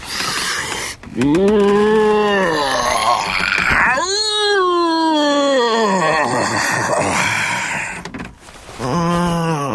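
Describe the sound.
A bear, Carlos, gives a loud, drawn-out yawn on waking from a nap on his sofa in a construction trailer: long groaning, moaning vocal bursts that swell and sink in pitch, a shorter one followed by a longer rumbling one, with another starting at the end.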